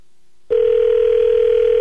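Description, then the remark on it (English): After a moment of silence, a steady telephone tone starts and holds unbroken at a loud, even level, with the thin, filtered quality of sound coming through a phone line. “There's a phone call.”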